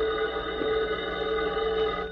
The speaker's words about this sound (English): Meanwhile, Bargo received a phone call.